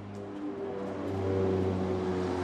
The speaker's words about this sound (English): A UN plane flies over the main demobilization camp in eastern Congo.